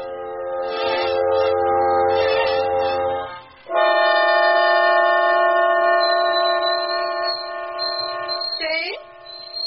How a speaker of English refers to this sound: Let's turn off the tea kettle.